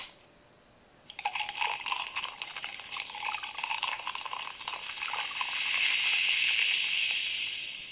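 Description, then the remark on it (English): Miller Lite beer pours into a glass: a quiet start, then a steady fizzing, gurgling stream from about one second that grows into a brighter, louder foamy hiss near the end. No one speaks. “I'm forgetting about, well, let me pour myself one real quick.”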